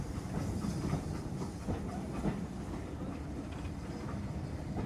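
A steady rumble of train carriages rolling along rails, with faint rhythmic clacks and a broad hiss running throughout at a moderate, even level.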